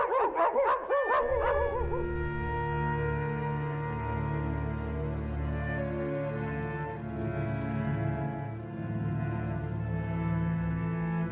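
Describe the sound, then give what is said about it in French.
Dogs bark in a quick, loud flurry of yaps for the first couple of seconds, then give way to a long, steady drone of sustained tones with no talking. “Et puis finalement, un matin, les chiens le repèrent.”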